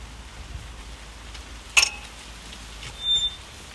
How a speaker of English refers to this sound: Dare I say it, the rain seems to be easing a little bit. Maybe I shouldn't speak too soon.